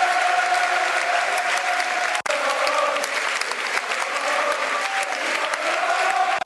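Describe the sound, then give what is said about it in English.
Sustained applause from a large stadium crowd at a football match for substituted player Ben Thompson as he goes off: a dense, steady roar of clapping and cheering that holds at a loud, even level for several seconds with only a brief dip midway. “Big round of applause for Ben Thompson. You can hear it.”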